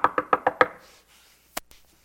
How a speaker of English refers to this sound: That little girl walked up to the door at the government housing, and the lights were on and the windows open and the cars in the driveway, they were home. She knocked on the door.